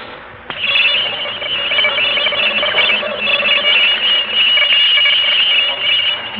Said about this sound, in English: Scientists here at the observatory believe that the pattern is a message, and that somewhere far out in the universe, something intelligent is trying to communicate with us. The next sound you hear is coming from outer space.